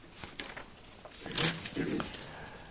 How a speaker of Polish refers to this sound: Mam takie miękkie kartki w Biblii, nie lubię takich miękkich, bo trudno się je przewija.